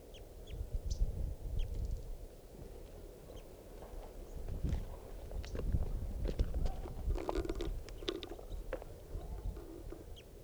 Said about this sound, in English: Wild bird is giving some very soft flight calls.